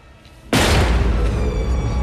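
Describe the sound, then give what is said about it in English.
Strahm kicks open a concealed door in a wall: after a half-second hush, one sudden, heavy bang bursts out loudly, followed by a sustained, rumbling clatter that stays strong to the end. No one speaks. “He kicks open the door.”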